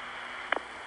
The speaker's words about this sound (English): And these calls sound very different from the long-distance network that you would get calling from, say, New York to Portland. The long-distance network sounded like this. Notice the smooth, pure white noise.